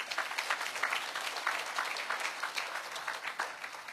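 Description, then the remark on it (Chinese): A church audience claps their hands to give glory to the Lord, in sustained, dense applause, many overlapping claps forming a steady crackling wash that stays fairly even throughout, with no voices standing out. “我们拍手把荣耀归给主好吧。”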